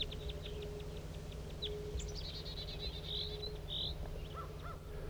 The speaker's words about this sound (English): Here come some wild birds. Wild bird. Wild bird in flight. It's going towards the main flock.